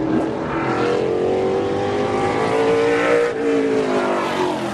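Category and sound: vehicle, race cars revving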